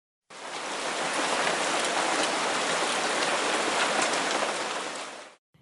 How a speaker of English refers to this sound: Raindrops fly onto my cheeks. It looks like 1930 is bringing us a rainy spring.